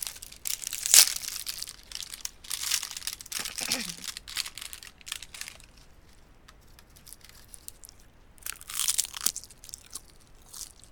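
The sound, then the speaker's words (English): Crinkling and rustling of a plastic snack wrapper being handled and torn open, in loud bursts with quieter crackles between, and a brief murmur of voice partway through. “I'm opening the package now.”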